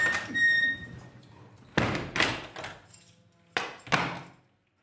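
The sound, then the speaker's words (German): A heavy metal prison cell door slams shut, heard from inside the cell, with a loud, ringing clang, followed by several echoing bangs and latch clunks, with no voices. “Ja, dann können Sie mal die Tür hören, was innen.”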